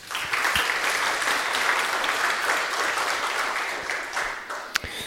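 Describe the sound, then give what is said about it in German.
An audience applauds steadily for about five seconds to welcome a speaker to a tech talk on container security, a dense, even wash of clapping hands with no voices over it. “Viel Applaus und viel Spaß.”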